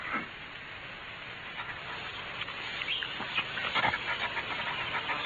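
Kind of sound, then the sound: animal, dog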